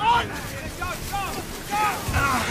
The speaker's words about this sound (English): So we wade out to the little boat.